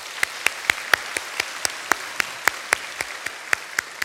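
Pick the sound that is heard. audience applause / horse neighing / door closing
audience applause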